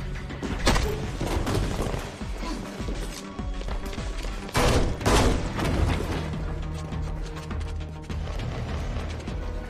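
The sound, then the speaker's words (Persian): Gunfire crackles in several loud, sharp bursts at irregular intervals, the heaviest volley near the middle, set against a dense background of clattering mechanical noise and muffled commotion, as armed units storm in and an officer is shot. “تیراندازی شد. یه مأمور تیر خورده.”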